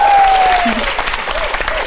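crowd, audience applause

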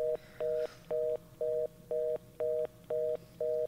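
signal or alarm, telephone number being dialed

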